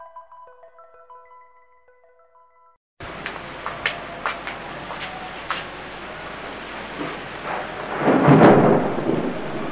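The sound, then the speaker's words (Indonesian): A few soft chiming tones give way abruptly to a steady stormy rush, with thunder rumbling and cracking throughout and swelling into a loud boom near the end. “Bagaimana terjadinya petir,”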